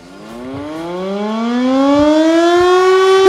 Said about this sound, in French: La sirène!